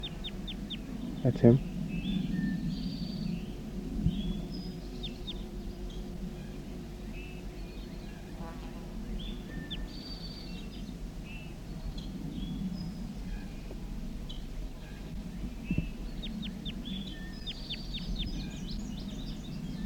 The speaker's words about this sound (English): Recording a wild bird again.